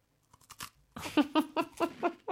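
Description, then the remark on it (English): Crunchy rum-scented Romanian cookies being chewed: a few faint clicks, then a steady run of about seven crisp, rhythmic crunches, fairly loud, with no talking. “Right, Romanian cookies.”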